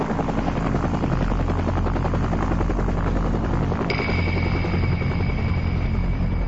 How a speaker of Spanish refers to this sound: El helicóptero acaba de llegar, así que nos iremos de aquí.